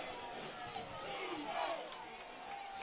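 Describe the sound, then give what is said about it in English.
A large stadium crowd at an American football game, third quarter with 8:11 to go and the Vikings trailing 19-10, roars and cheers in a dense, continuous wash of voices, swelling slightly in the middle before holding steady, with no single voice standing out. “You hear this Lounge crowd, the 12th man, as Andy Rogers challenged him to be last Tuesday night at the coaches' show.”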